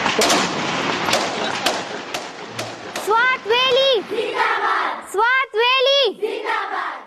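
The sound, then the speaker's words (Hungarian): A burst of sharp, scattered bangs of explosions and gunfire cracks through the busy noise of a city in the Taliban-held Swat region, then loud, drawn-out shouting voices rise over the commotion. “Robbanások, kínzások zaja hallatszik a városi forgatagban.”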